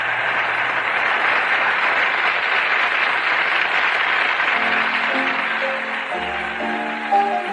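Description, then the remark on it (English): A large cricket crowd of thousands, all standing in brilliant sunshine, cheers and applauds in a steady, loud roar of clapping that never lets up, while a few musical tones start to rise underneath near the end. “Here in this brilliant sunshine, they won't stop cheering.”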